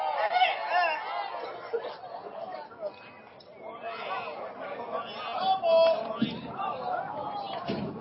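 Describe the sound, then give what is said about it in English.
A baseball stadium crowd chattering during a night game: a steady, dense murmur of many overlapping voices with a few brief louder bursts, continuing unbroken for the whole stretch. “The crowd's getting some fun tonight.”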